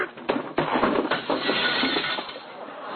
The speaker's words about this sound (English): What was that? It sounded like glass breaking.